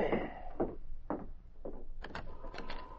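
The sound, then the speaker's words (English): Several fairly loud knocks on a wooden cabin door on Elk Ridge, landing in an uneven rhythm over a few seconds with no voices. “Burley and Lou were waiting in the cabin on Elk Ridge when a knock was heard”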